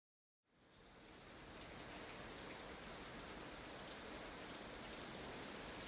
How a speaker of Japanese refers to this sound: 雨は弱まる気配を見せない。